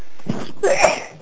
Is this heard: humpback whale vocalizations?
no